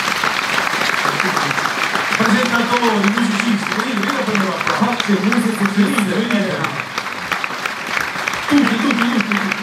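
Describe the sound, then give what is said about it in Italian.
An audience applauds steadily for everyone who prepared the evening, a dense, even wash of many hands clapping at full volume for the whole stretch, while a voice talks over it through the middle. “chcę, żebyśmy zrobili taki wielki applauso dla wszystkich, którzy przygotowali ten wieczór, bo pracowało bardzo dużo ludzi.”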